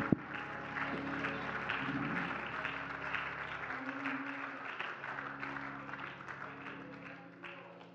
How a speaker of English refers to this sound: Now give the Lord a hand clap of praise and thank him this morning.